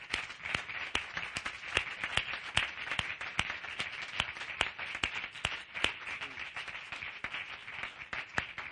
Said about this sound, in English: Let's give the Lord an applause. Hallelujah.